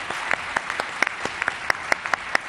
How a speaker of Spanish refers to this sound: y les doy las gracias a las 10, 12.000 personas que desde primera hora están aquí con nosotros y a los que les voy a dar un aplauso yo a ustedes mismos.